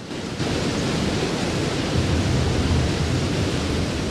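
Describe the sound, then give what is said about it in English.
A roaring waterfall deep in the jungle pours in a dense, unbroken rush of white noise. It swells in within the first half second, then holds loud and steady with no voices. “A roaring waterfall somewhere deep in the jungle.”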